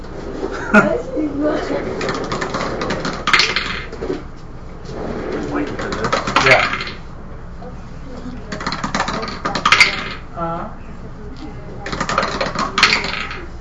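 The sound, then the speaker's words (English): Dice clatter and rattle across a hard surface in several separate bursts, each a few seconds apart, crisp, with people talking quietly in the background; the dice are rolled in a tabletop game to see whether an attack hits. “It's rolling the dice to see if I hit.”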